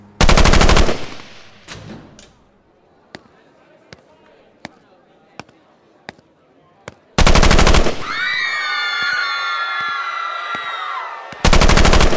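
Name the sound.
gunfire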